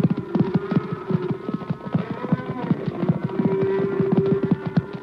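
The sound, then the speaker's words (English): A thundering cattle stampede with rapid, loud galloping hoofbeats of the horse Trigger racing ahead of it to reach a lone rider, a dense rolling clatter throughout, with low bellowing tones rising beneath the drumming hooves. “I reached the lone rider just ahead of the stampede.”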